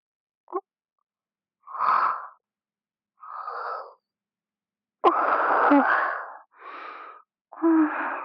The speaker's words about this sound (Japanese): またあくびが出て。